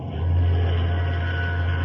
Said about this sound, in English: Sounds like an ocean liner, right enough. Yes, we're signaling her. Scott, there she is, the Gigantic looming out of the fog. Looks like a mountain coming at us.